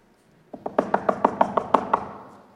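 A rapid series of about ten sharp knocks on wood, fairly close and evenly paced, with a slight reverberant tail fading after the last rap.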